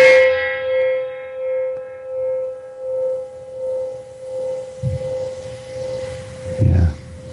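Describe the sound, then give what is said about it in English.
A small 8-inch gong is struck once, then rings on with a long, shimmering hum that pulses and wavers as it slowly fades, with a few soft knocks and rustles near the end. “It's just an 8-inch gong.”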